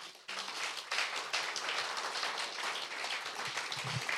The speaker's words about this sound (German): Da dürfte Gott nochmal einen Applaus geben.